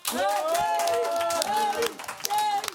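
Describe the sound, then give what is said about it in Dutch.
Steady audience applause at the OBA for the day's experts, a dense patter of many hands clapping throughout, with a voice talking or calling out over it before the clapping thins toward the end. “Mag een groot applaus voor onze experts van vandaag”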